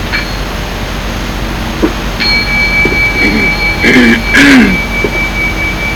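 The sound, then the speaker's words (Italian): A mindfulness bell is struck once and rings out with a long, steady, high shimmering tone, while a couple of brief throat-clearing noises break in partway through the ring. “So when I'm acting in a way to create suffering, quindi quando io agisco in qualche modo che crea sofferenza, I hear the bell ring.”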